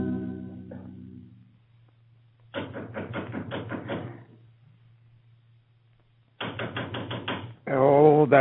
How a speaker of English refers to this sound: That knocker, there's always someone pounding at the outer door. Yes, and at this hour.